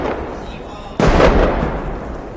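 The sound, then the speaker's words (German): A sudden loud explosive blast of a rocket bursts out over a noisy crowd murmur at a presidential swearing-in ceremony in Afghanistan, amid rocket and gunfire sounds, and rumbles away over about half a second. “Und plötzlich sind Geräusche von Raketen und Schüssen zu hören.”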